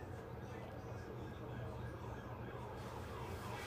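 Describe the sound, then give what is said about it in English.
A police car siren wails faintly from down over the hill, its tone half-buried beneath a steady rumble of background noise and the murmur of voices. “Hey, what was that, an ambulance? No, it's a cop.”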